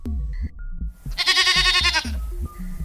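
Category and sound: animal, mountain goat bleating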